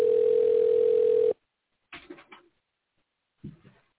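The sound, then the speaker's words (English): A loud, steady telephone dial tone hums for just over a second while a call is being placed and cuts off abruptly, followed by two brief, muffled fumbling sounds over a thin phone line. “I'm dialing him, yeah.”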